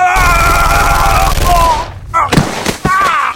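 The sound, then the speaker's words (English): A steady, buzzing tonal drone cuts off, then about three sharp gunshots from a squat-looking pistol crack out in quick succession, loud and abrupt, with a faint tonal layer continuing beneath them. “When it came out again, he was holding a squat-looking pistol pointed in Connolly's direction.”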